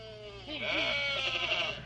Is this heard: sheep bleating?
yes